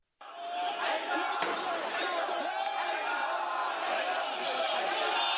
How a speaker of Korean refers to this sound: 네, 이란인들이 수도 테헤란에서 사우디아라비아 정부를 비난하며 시위를 벌이고 있는 소리입니다. 이들은 사우디 정부가 폭동 선동 혐의로 수감 중이던 저명한 시아파 지도자를 포함해서 50여 명에 가까운 시아파인들을 처형한 걸 강력히 항의하고 있습니다.